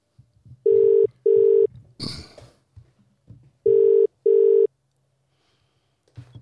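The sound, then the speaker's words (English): A telephone rings loudly in two double-pulse bursts, brr-brr then brr-brr, with a brief rustling clatter between them and a low background hum. “Is that ringing?”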